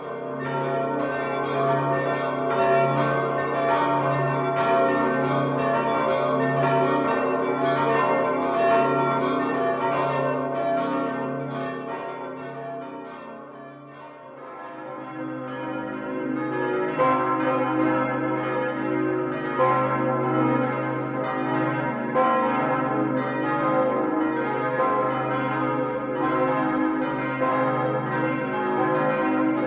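A full peal of the five church bells of Merseburg Cathedral in Germany rings continuously, loud, with overlapping strikes blending into a dense, resonant wash; the oldest bell was cast in 1503, the largest in 1706. It dips briefly midway, then swells again. No voices.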